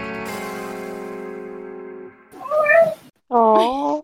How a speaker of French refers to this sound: Oh. Un chat.